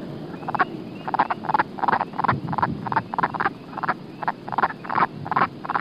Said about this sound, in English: Wood frog.